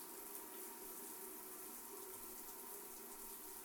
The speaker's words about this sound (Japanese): ジャバジャバ、ジャバジャバ、泡をどんどん洗い流して。